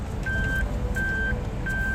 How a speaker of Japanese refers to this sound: ちょっと今車を止めるんで。